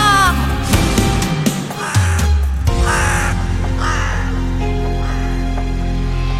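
A crow caws several times in harsh, rasping bursts over a steady background of sustained musical tones and low droning chords.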